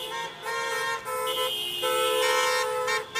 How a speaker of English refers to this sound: A protest over the lack of testing of the homeless was held outside City Hall. Dozens of people circled the block and blared their car horns.